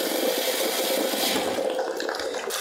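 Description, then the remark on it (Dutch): A steady, continuous rush of about a liter of boiling water pouring for a soup, filling a container with a bright splashing hiss that holds evenly for a few seconds with no voices. “Nu pas ik nog een kleine liter kokend water af.”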